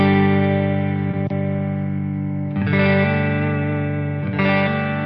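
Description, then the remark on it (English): An electric guitar plays through an amp with its bright switch on: three ringing, slightly driven chords, each left to sustain, with a crisp, glassy top end and no one talking. “So here's the bright switch.”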